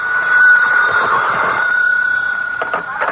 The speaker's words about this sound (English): Telephone. See, something's happening already. I'll answer, Ma.